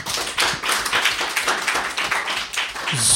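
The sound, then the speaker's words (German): A group of people applauds together, a dense, steady patter of many hands clapping at once, lively, with no talking over it, honouring a member who has attended every Wednesday for 30 years. “Hör mal, da müssen wir aber alle mal klatschen, oder?”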